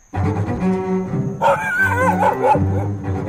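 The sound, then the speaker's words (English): Several dogs bark and yip in quick, excited bursts at a dog park in Chevy Chase Village, Maryland, with a high whining yelp rising in the middle, set against a steady low musical drone and no voices. “I have been reporting on what I think might be now the most high-profile, dramatic dog park in the country.”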